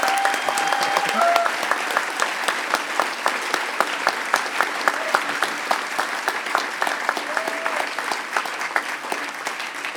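A crowd applauds steadily for the full stretch, dense overlapping claps at close range with a few faint whistles or cheers rising briefly above the clapping.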